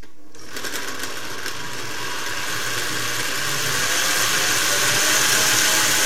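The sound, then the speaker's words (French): A blender motor whirs steadily after a brief silence while mixing a cucumber soup, a loud, continuous buzzing grind that swells slightly in intensity as it runs, with no voices present. “Je retire les feuilles de menthe et un peu d'eau. Je mixe.”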